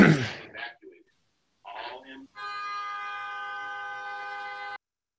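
An emergency drill alarm sounds as a steady, buzzy, horn-like tone rich in harmonics, held for about two seconds without wavering. Brief bursts of talking come just before it.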